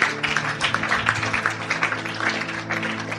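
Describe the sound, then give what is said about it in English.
A church audience claps for God in a dense, steady wash of applause, heard over a sustained low musical drone throughout. “Come on, let's give God a big hand clap.”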